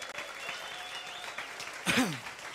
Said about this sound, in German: Und weil ich einen talentierten Schlagzeuger Markus Hornburg hier habe, können wir Markus mal einen kurzen Applaus geben.